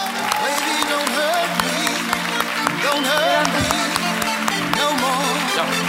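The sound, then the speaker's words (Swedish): An audience claps steadily for Clara Henry and Cissi Wallin throughout, a dense crackle of many hands holding at an even level, with voices and a faint tonal murmur running underneath. “En stor applåd för Clara Henry och Cissi Wallin.”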